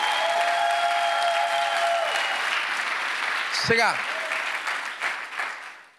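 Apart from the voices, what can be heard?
audience clapping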